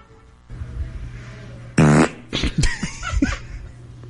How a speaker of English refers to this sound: See, it's a solid fart. Yeah, see, I think that that fart could become a Hollywood star. That's pretty picturesque.